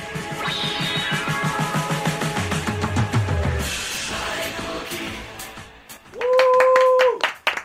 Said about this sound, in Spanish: Wow. Oh, nuestro nuestro querido público, que suenan como tres pares de palmas aplaudiendo.